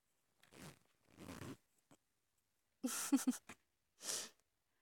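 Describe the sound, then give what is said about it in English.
Quiet handling of a belt and zipper being undone by hand: a few scratchy bursts of rustling fabric, a cluster of small buckle clicks, then a short rasping zip, separated by brief pauses. “Or see and feel my hands fumbling at your belt and working at your zipper?”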